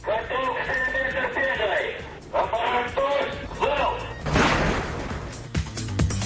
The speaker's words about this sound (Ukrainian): Над Севастополем знову греміли залпи, але не салютів, а бойової зброї.